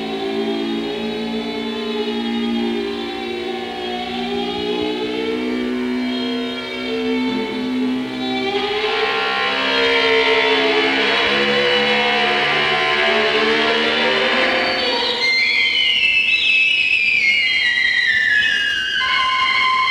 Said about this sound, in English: But there was this little airplane that flew over Japan, and in it was a little package labeled death for many, many people. And we're going to reconstruct that day here over Hiroshima off the keyboards of the Sonicon and the Musitron. So hang on.